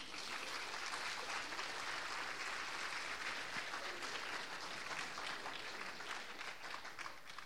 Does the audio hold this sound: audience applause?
yes